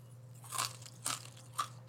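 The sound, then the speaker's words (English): Crunching of crispy oven-roasted French lentils, lightly burnt, three sharp crisp bites spaced about half a second apart over a steady low hum, with no talking. “You already wanna hear some more crunch?”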